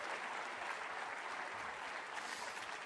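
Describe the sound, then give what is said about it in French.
A crowd claps steadily for God, dense overlapping applause filling the whole clip at an even, moderate level with no voices rising above it. “Applaudissez le Dieu qui nous appelle toujours et répond au cri de notre cœur.”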